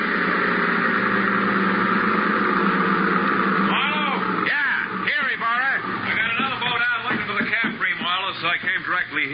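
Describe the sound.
A motorboat engine drones steadily and fairly loud as the boat comes in, running alone for a few seconds before people start talking over its continuing hum.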